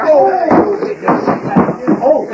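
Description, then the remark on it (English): Several heavy fist punches land in quick succession in a fistfight, dull thuds spaced about half a second apart, knocking a man out, with strained vocal sounds from the scuffle running underneath. “You knocked him clean out”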